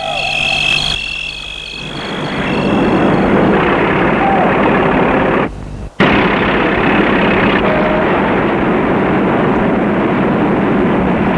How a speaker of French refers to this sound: Et l'homme met son camion en route.